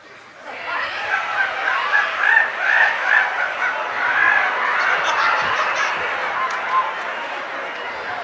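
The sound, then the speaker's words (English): A crowd of boys screeches and hoots in imitation of monkeys, a loud, continuous overlapping chorus of shrill cries that starts abruptly and keeps going without a break. “And then they would screech just like the monkeys.”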